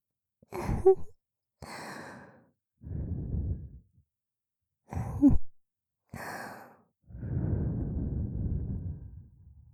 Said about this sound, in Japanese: それでは、ひんやりとした雪女の吐息でお客様の熱を冷ましていきますね。